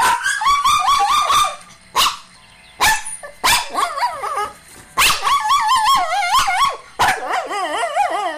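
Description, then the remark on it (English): A 3-year-old Shih Tzu shelter dog, left alone in a crate, whines and barks, high wavering cries broken by sharp yips in a frantic, continuous stream, loud and without any talking. “Coco is a 3-year-old Shih Tzu. And whenever we leave”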